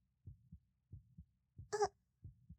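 A close, muffled heartbeat thumps in steady lub-dub pairs, four beats at a brisk pace, with a brief soft vocal moan rising over one beat midway.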